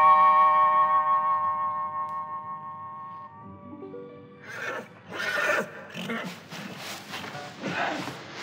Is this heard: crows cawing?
no